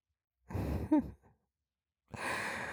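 A woman's heavy, excited breathing: a long breathy sigh with a brief catch, a short puff, a pause, then another long audible exhale. No one speaks.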